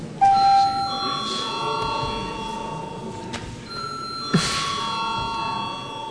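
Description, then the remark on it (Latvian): A parliament chamber bell rings out before a secret vote, in two long, sustained tones, the second starting about four seconds after the first, with their ringing overlapping above a low murmur in the chamber. “Lūdzu zvanu.”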